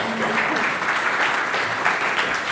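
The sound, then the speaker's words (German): Steady audience applause for participants being thanked, a dense crackle of many hands clapping at an even, sustained loudness throughout, with no voices standing out. “Kurzen Applaus für euch, Dankeschön.”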